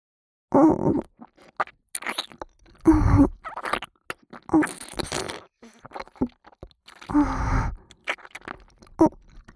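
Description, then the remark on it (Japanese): Close, wet mouth sounds of chewing and gulping come in several bursts a second or two apart, mixed with low throaty hums and grunts, with quiet pauses between. “もぐもぐごっくんするとこ見ててくださいね。”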